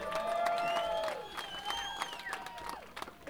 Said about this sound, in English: So give them a warm round of applause once more.